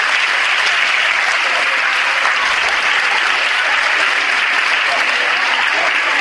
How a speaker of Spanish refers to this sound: Un aplauso para esos niños.